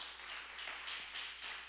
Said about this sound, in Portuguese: Dá um aplauso a Ele aí.